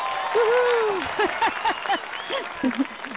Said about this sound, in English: Y'all get a round of applause. Here we go. Yay.